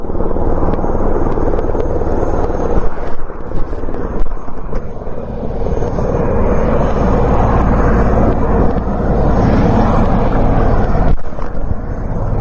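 KFOR helicopters roar steadily in the early morning, ferrying customs officers to the Brnjak and Jarinje border crossings in northern Kosovo; a heavy low engine rumble mixed with wind-like rushing noise, loud and unbroken for the whole stretch, with no voices.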